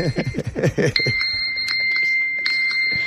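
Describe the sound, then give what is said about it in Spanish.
A mobile phone ringtone sounds in a studio as a steady, high-pitched electronic trill that pauses briefly and starts again, ringing out after a moment of people talking. “Hay que entrar con el móvil apagado al estudio.”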